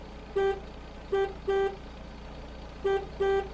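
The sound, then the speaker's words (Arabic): A car horn honks five times in short, uneven bursts, two pairs and a single beep, over a low steady engine rumble from a car driving back home. “اشترى الأب ما أوصت عليه أم باسم، وعادا بالسيارة إلى البيت”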